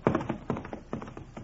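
Hooves of a horse named Clipper pound in quick, uneven clusters of thudding beats as a boy leaps on and gallops off, a moderately loud galloping rhythm with no voices over it.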